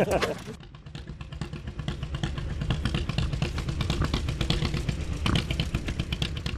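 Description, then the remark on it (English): A large antique tractor engine, owned by Rod Hady of Springdale, revved from the driver's seat about 10 feet off the ground at the Fall Tired Iron Weekend: a loud, chugging rumble with rapid rhythmic firing pulses and metallic clatter that holds steady throughout. “He revved the motor from his seat, which was about 10 feet off the ground.”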